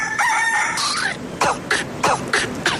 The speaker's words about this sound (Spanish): En las mañanas manda el gallo. Punto.